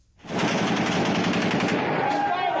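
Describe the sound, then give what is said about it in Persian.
Loud, sustained automatic gunfire crackles without pause in a dense, chaotic wash of noise, with indistinct shouting voices mixed into the commotion of a street clash, as security forces fire live rounds at protesters during a general strike in Divandarreh, Kurdistan, Iran, on Monday, 28 Shahrivar. “سنگ جواب شلیک مستقیم.”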